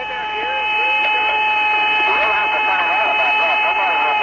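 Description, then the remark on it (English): Eerie, warbling radio whistles glide and swoop over a steady band of static, with a sustained high tone humming underneath, continuous and fairly loud throughout, like alien music from space. Heard in astronauts' headsets while their modules were on the far side of the moon, out of range of Earth radio, in recordings made by NASA. “It's a whistling, you know, like an outer space type thing.”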